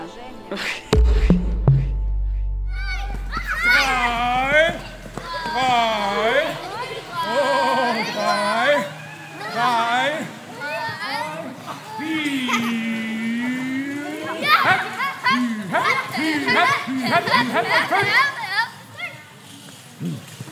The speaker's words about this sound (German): zwei Kung-Fu-Trainer, toben mit einer Gruppe von Kindern über eine Wiese. Alle haben sichtlich Spaß.